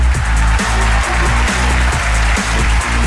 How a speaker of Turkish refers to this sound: Pekala pekala, alkışlara teşekkür ederiz ama işte Türk radyolarında ilk defa ilginç bir köşe.